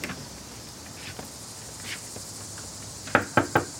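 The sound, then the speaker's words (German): Three sharp metallic clicks, a key rattling and turning in the door lock of a university apartment building, near the end, over a steady outdoor backdrop of chirping insects with no voices. “versucht, die Tür zu seinem neuen Wohnhaus aufzuschließen.”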